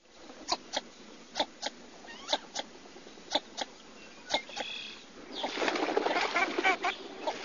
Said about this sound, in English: What kind of a sound does it make? Well, it's very duck-like, not an aria from the opera.